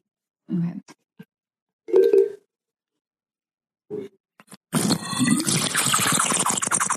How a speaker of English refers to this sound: We both have water bottles with straws, so that might have been a little weak tea time for me. Mine just has a little tube.